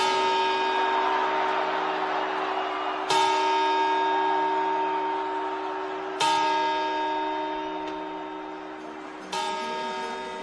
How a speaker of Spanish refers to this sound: campanadas.